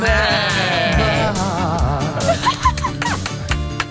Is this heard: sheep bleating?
yes